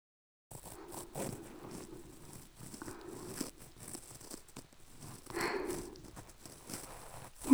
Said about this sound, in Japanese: いいわね。雨音に耳を傾けて、神社の縁側でゆったり過ごす時間。